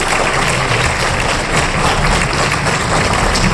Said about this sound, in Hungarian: Tapsot neki!